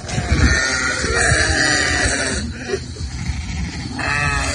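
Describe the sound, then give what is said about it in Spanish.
A herd of about 80 goats bleats loudly and continuously in their enclosure, with a wildfire a few metres away. Many overlapping cries form a dense chorus, with a brief dip in the middle before the noisy bleating swells again. “Y entre los vídeos, Carlos, también hemos visto uno en el que podíamos apreciar a unas 80 cabras.”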